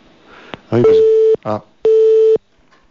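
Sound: phone call cut off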